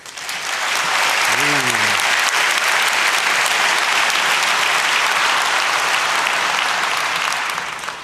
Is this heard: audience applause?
yes